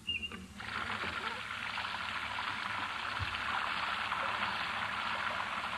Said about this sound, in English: It sounds like rain.